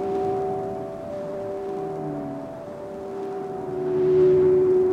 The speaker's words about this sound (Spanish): Ahora, en la distancia, se comienza a escuchar el canto de la ballena jorobada.